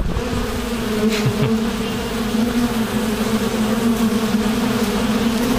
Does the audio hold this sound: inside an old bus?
no